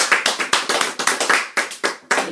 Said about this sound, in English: Come on. Everybody clap for yourself.